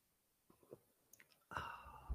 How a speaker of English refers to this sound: All right, we're going to do a closing sip because I think you need it. Here's to you.